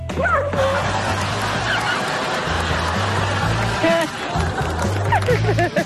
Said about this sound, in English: I don't know if that's a goat or a sheep, but I know it's ticked off at that dog.